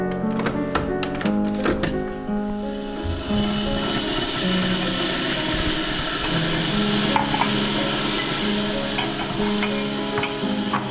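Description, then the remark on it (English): A few sharp clicks and clinks at the start, then a steady rumbling hiss with a low hum, like a kettle being switched on and starting to heat, as it is put on to make tea. “I'll get the kettle on.”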